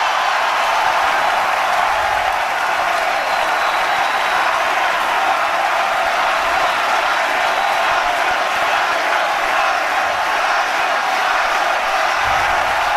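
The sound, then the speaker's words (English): A large golf crowd at Augusta, at the Masters, cheers and chants after a golfer's win in a loud, unbroken roar that holds steady for the whole stretch, with no single voice standing out from the mass of noise. “The chant after he won, it was so electric.”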